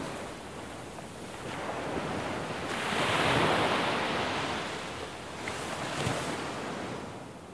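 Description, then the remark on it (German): Waves of a sea or lake wash in with a steady, broad rushing roar that swells to a peak near the middle and eases back, with softer surges following. Gusty wind noise mixes in; no voices. “Mein Lieblingsklang ist Rauschen des Meeres oder des Sees.”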